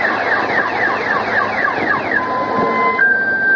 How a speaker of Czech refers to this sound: U blatu, na zakrčenom putu, vidimo izvrnute automobile potonule u blato. Iz jednog od njih još se čuje alarm.